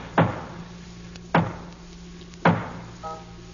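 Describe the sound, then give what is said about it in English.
Three heavy, evenly spaced knocks on a door, each a loud thud with a short ringing decay, about a second apart, followed by a faint tonal hum. “Knock.”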